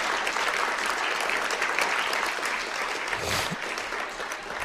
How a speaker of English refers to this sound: And I think a round of applause will be just fine. For you. For you. For you.